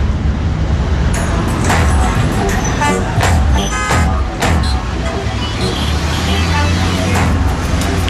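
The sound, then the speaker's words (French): Busy street traffic with several car horns honking in short bursts over a steady roar of engines, with voices faintly mixed into the loud, crowded outdoor noise; drivers honk in answer to a 'Honk for peace, bring troops home' sign, in a former Confederate capital in the US. “Klaxonner pour la paix, ramener les troupes à la maison.”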